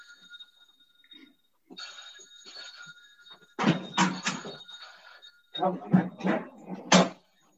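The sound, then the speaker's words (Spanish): A phone rings with a steady electronic ringtone for a few seconds as the speaker's brother calls, followed by loud clattering and fumbling handling noises as the phone is dropped. “Es mi hermano, pero se me ha caído el teléfono.”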